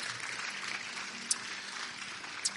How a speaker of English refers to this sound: Amen. Give the Lord a hand clap of praise as you're being seated. Amen.